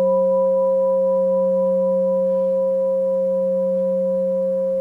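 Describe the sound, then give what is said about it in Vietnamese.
A bell struck with a handheld striker rings with a steady, sustained hum made of a low fundamental and a few clear overtones, holding at an even loudness throughout with no voices. “Nếu tôi kéo lại tôi đánh vào cái thì quý vị sẽ nghe cái tiếng chuông vang lên.”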